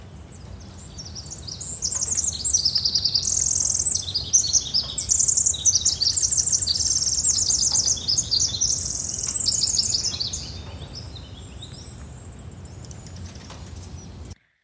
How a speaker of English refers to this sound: we encountered several Pacific wrens who boast one of the most complex songs, scaling upwards as if climbing a staircase of diamonds, sparkling with each step.